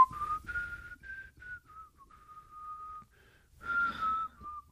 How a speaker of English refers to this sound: The examiner probably wouldn't whistle in an irritating, impatient, la, la, la, using the whole minute.